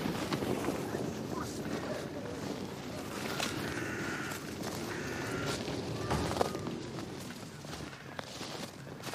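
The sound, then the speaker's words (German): Icy wind blows steadily and without pause amid heavy snow, a continuous rushing roar with faint whistling tones rising and fading on top, fairly loud throughout. “Brrr, oh, ist das heute echt ungemütlich. Der eisige Wind und der viele Schnee.”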